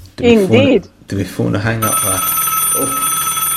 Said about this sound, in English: I think we're ending with an old phone.